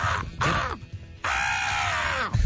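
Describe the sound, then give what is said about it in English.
A human voice mimics a bird call: a few loud, harsh, crow-like squawks, the last one long and drawn out, with no ordinary speech. “nobody does better bird sounds than Harlan Williams”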